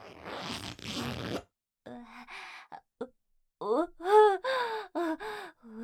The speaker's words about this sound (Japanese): ズボンのチャックを下ろせば。